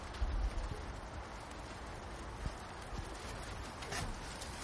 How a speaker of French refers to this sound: Là, il pleut.